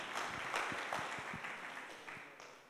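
An audience applauds, many hands clapping in a dense, steady patter that holds at an even loudness for a few seconds, with no one speaking over it.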